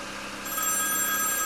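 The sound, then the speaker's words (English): A telephone starts ringing partway through, a steady, high-pitched electronic ring sustained to the end over a low background hum, with no one speaking. “How many times are you going to ring? Just answer it.”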